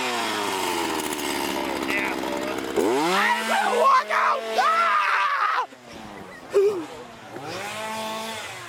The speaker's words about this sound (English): There's a guy with a chainsaw right behind me, and I am running frantically.